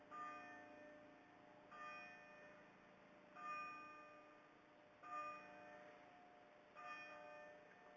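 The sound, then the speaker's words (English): A church bell tolls slowly and steadily at eleven o'clock on a summer evening, five even strikes about a second and a half apart, each ringing out and fading. It sounds quiet over a soft evening background hum. “Okay, so what we're going to try and do now is we're going to try and catch the bells at 11 o'clock for a nice summer evening.”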